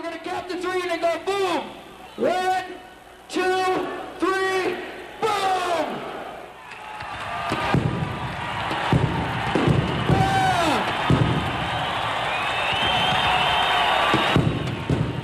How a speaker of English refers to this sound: All of a sudden, there's like stuff shooting up in the air. Crowd goes out of their minds.